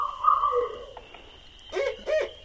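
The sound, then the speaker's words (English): A barred owl hoots during the day in a series of hooting calls, moderately loud, with a steady background hum. The calls rise and fall in pitch, and no one speaks during them. “and you can hear barred owls during the day sometimes. Mm-hmm. So there's one now. There's one right now.”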